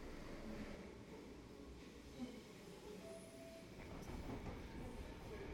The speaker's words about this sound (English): We're on a very noisy Merseyrail train on its way to Egbeth, which is a suburb of Liverpool